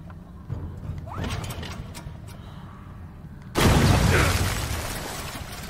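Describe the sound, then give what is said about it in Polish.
A sudden loud explosion bursts out partway through as someone blows up, a broad roaring blast that slowly fades, preceded by scattered pops and mechanical clatter in a noisy, game-like battle scene. “Ktoś tam już wybuchł.”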